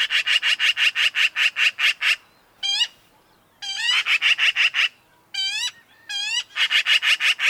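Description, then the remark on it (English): Black-billed magpie calls: harsh, rasping chatter in rapid repeated bursts, broken by a few sharper rising notes, loud with no voices. “which goes some way to explaining why magpies are such survivors.”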